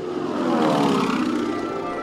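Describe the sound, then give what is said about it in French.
A propeller airplane drones steadily overhead, its engine hum holding at a constant, fairly loud level with a buzzing tonal whine throughout and no voices. “J'ai donc dû choisir un autre métier, et j'ai appris à piloter des avions.”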